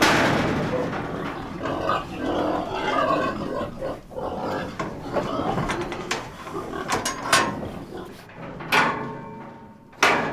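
pigs grunting

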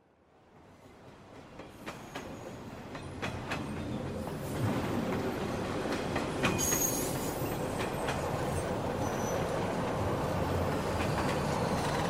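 train arriving

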